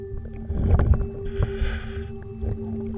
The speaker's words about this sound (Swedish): En dykare utrustad med kamera skannar av botten. Vi hör ljudet från inspelningen.